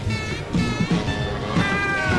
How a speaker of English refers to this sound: I hear some meowing. Or yes, this is the Scat Cat song